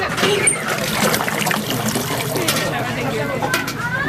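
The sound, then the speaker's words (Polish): Spring water pours steadily into a container as people collect it to take home, a continuous splashing trickle whose pitch rises as the vessel fills, with indistinct voices murmuring in the background. “Co roku taka tradycja, żeby ta woda była z nami. Najpierw pomodlić się, potem wypić. Bierzemy ze sobą do domu.”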